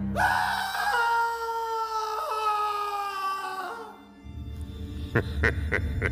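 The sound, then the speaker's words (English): A long, loud scream from a hotel guest at night in a hotel in Linz, Austria, in 1952, holds for about four seconds, wavering and sliding slightly downward, then gives way to a low rumble punctuated by a few sharp knocks. “Cue scream.”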